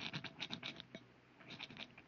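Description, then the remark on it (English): A rock scrapes across the outside of a lead door as someone scratches something onto it, in a series of short, gritty strokes, a rough rhythmic scratching with a brief pause midway before more scraping follows. “What are you doing with that rock? I want to scratch something on the outside of this lead door.”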